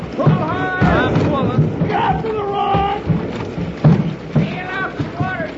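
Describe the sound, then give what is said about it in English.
Rushing, churning water roars steadily around a small boat going through rough rapids while several voices shout and whoop excitedly over the constant spray and splashing. “If we get smashed up, swim to the shore as hard as you can.”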